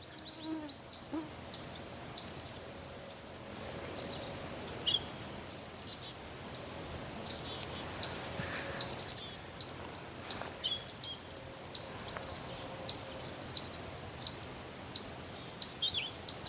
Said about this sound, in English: And in the fall, they get pretty loose with their songs, so it's the same quality as the regular black and white song. It just has an extra part.